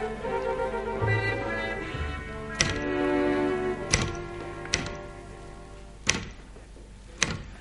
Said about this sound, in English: You've been typing for nearly an hour and the little bell hasn't dinged once. I don't know why you're fussing. I only started an hour ago and I've nearly finished the date.